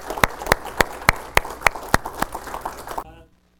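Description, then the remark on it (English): An audience applauds to honor armed forces veterans standing in the gathering, with steady, evenly spaced loud claps from one person standing out over a dense wash of clapping, until the sound cuts off abruptly. “Let's give them a big round of applause, please.”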